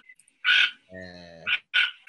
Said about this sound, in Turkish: Sesi de bu şekilde. Sesi boyundan daha fazla bir kuş böyle. Evet, biraz rahatsızcı bir ses var karga gibi.